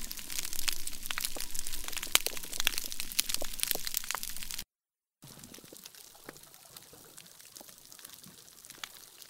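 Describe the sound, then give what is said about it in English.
Dense, crackling underwater chorus of countless sharp clicks and pops that reef fish make to each other, like frying, with a brief silent break midway, then a quieter, sparser stretch of snaps and faint whistles. “So those are the sounds of all the little clicks and whistles and pops that fish make to each other.”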